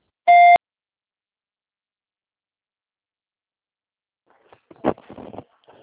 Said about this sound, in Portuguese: Por favor, digite pausadamente o número do CPF após o bip.